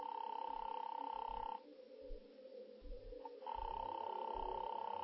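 A buzzing telephone ring tone sounds steadily on an operator-connected phone line calling number 136, stops for about two seconds, then rings again, with faint low rumbling noise underneath.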